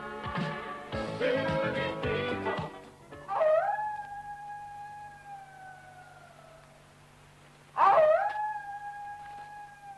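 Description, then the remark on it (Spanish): People howl like wolves at two minutes past twelve, sustained wavering tones rising and holding, with two separate howls starting a few seconds apart after a brief burst of noisy voices at the start. “Bueno, pues esos son los aullidos de las 12 y 2 minutos. Ya que nadie aúlla por ahí por la playa, pues tenemos que aullar nosotros.”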